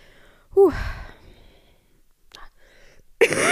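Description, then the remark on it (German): A person with a lingering cough from illness coughs twice: an abrupt, throaty burst with a raspy tail early on, then a quiet pause with a faint click, and a second rough cough that cuts in at the end. “Ihr hört, ich bin immer noch am Husten, aber das ist ja auch das, was am längsten bleibt.”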